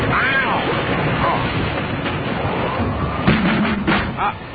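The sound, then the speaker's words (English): A chaotic car crash into a grill after the car stopped suddenly and the rope buckled, letting the grill slide: a rough, noisy rumble of smashing, then a cluster of sharp metallic bangs and crunches near the end, with muffled voices underneath. “Your car is completely smashed.”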